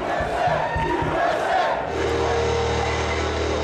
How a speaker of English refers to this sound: Then the crowd inside started chanting.